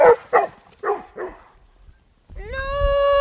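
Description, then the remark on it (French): Dogs bark, four quick, sharp barks in a steady run, then a short pause and a long, rising, tonal howl that holds steady to the end. Eight dogs are present, including White Swiss Shepherds, a German Pointer and a Beagle. No one speaks. “Là, il y a combien de chiens, là? 8 chiens.”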